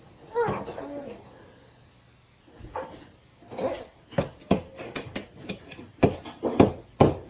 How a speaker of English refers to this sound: Bang, bang, bang. Here. Oh, look at him banging the nails